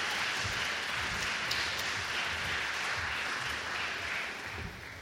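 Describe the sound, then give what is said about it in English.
An audience applauds the guards as they go back to their seats, a dense, steady wash of clapping that holds evenly for several seconds, then begins to thin and fade toward the end. No one speaks over it. “Let's give our guards a round of applause.”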